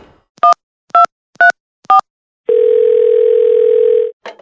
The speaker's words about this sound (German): Er kann aber auch zum Telefon greifen und Oma einfach anrufen.